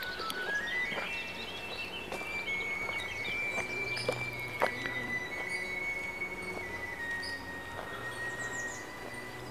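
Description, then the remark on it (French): Many birds chirp and twitter faintly outdoors by a pond on a sunny early-spring day, scattered high calls over a steady background rumble and a long, thin whine like a passing train; no one speaks. “Il reste quand même quelques canards et plein d'oiseaux. Ils sont comme nous, les oiseaux, ils doivent être très très contents de voir ce soleil.”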